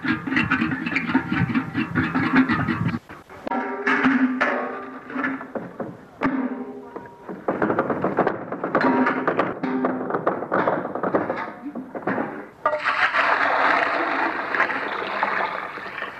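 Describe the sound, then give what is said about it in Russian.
A woman fetching water at a well: metallic knocks and hollow thunks of a bucket, with sloshing and pouring water in a steady, busy sequence and no voices. “Вот за водой на колодец Маргарита сходит с удовольствием.”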